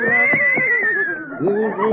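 A horse named Mendel, rented from a riding academy, whinnies loudly, a shaky, wavering neigh with a pulsing, trembling pitch that lasts about two seconds with no break.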